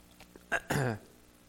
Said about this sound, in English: Pardon me for a second. I'll take my first sip of water here.